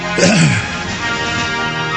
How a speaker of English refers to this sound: That's a new way to do talk radio. You open your mic up live and just cough right in the microphone.